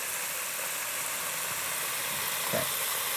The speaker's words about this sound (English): Ooh, I love to hear that fish frying. Woo, sounds good.